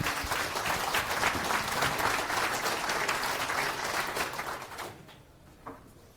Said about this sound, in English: Big round of applause